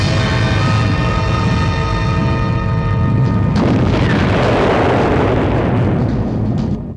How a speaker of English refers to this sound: Another rockfall.